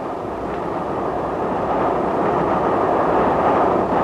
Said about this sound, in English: The hour shall pass like the wind, even as our famous train rushes through the night. She goes well, too.